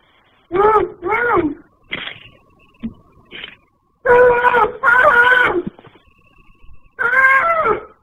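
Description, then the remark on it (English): Muffled, gagged screaming, as if someone has been duct taped, heard on a kidnapping victim's 911 call: loud bursts of two quick cries, a few shorter whimpers, then longer strained wails, separated by brief silences. No clear speech. “You can hear muffled screaming as if someone has been duct taped.”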